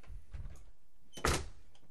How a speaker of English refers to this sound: Actually, I probably should close the windows. That's what I'm gonna do, close the windows and lock the door after me, like I was told to do.